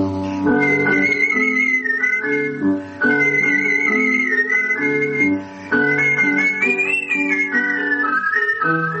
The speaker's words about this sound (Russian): А занятие художественным свистом так и осталось хобби, увлечением, растянувшимся на 60 лет.